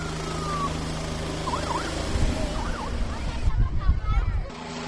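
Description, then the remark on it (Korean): A police helicopter with pilots aboard revs up and lifts off, its rotor building into a loud, rhythmic low thumping, while a siren wails intermittently amid outdoor crowd noise of people gathered with cameras at a Touch-a-Truck community event in the US. “자, 이제 헬리콥터가 드디어 이륙을 하나요? 조종사들이 헬리콥터를 타고 하늘로 오르고 있습니다.”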